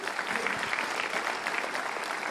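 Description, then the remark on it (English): Sustained audience applause fills the whole stretch, a dense, steady patter of many hands clapping at an even, fairly loud level with no voices rising above it. “Can we applaud that?”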